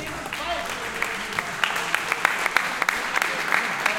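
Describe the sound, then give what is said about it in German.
A crowd at the end of the Rookie Rumble fighting event applauds steadily, dense overlapping claps filling the space with sharper individual claps popping out, sustained throughout with a faint murmur of voices underneath. “Herzlichen Applaus.”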